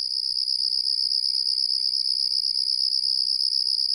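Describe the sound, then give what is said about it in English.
A Carolina ground cricket trills steadily and loudly, a continuous high-pitched buzzing song that never pauses across the whole clip, with no voices. “This is the Carolina ground cricket.”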